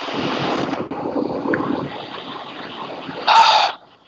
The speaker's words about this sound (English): Are there like waves crashing against the shore or something? What is going on?